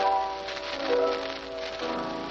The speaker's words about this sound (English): The sound of the rain, the drone of the motor, vanished somewhere in my senses.